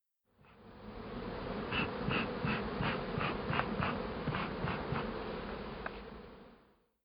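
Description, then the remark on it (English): Honeybees buzz in a dense, steady drone, with a faint rhythmic pulsing running through the hum for several seconds before it fades out. No voices. “because she has managed to get the Apis mellifera watsonia recognized as its own distinct subspecies, 11 years after Sherlock told her about the new bees, and he's not by her side to celebrate it.”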